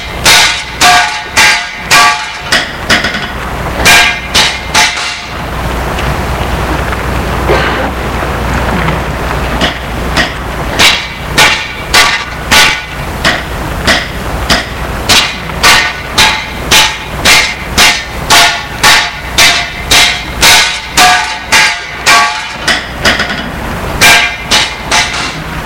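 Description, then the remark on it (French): A crowbar strikes repeatedly around a stone slab to loosen it and clear away the earth and dirt around it. A steady series of sharp, ringing clanks with a rattling metallic resonance, pausing briefly before resuming in a regular rhythm over constant background noise. “Il tape autour de la dalle pour la déceler. Pour retirer la terre, la saleté qui est autour. Ça fait un bruit de ferraille qui résonne.”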